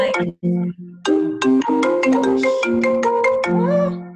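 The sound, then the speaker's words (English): A phone ringtone plays a bright, melodic electronic tune, a run of quick tonal notes with sharp attacks that repeats as it keeps ringing, loud and with no voices over it. “that's like, no, why it's ringing.”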